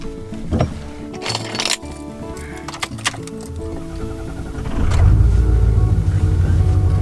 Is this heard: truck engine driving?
yes